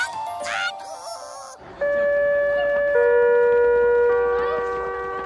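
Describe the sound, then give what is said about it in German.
An electronic school gong rings out for the end of the school day in long, steady tones that shift to a new pitch partway through, sounding over a constant murmur of background noise after a brief burst of chirpy sounds. “Egal ob Gong oder Klingel, wenn es zur Pause oder zum Schulschluss bimmelt oder gongt, dann freut man sich schon so ein bisschen, oder?”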